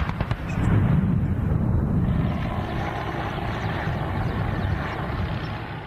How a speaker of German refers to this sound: Kanonenfeuer und Hubschrauberlärm erfüllen am Sonntag den Himmel über Warschau. Die Premierminister der Visegrad-Staaten feierten nämlich auf einem Panzerübungsplatz unweit der Stadt den 20. Jahrestag des NATO-Beitritts ihrer Länder.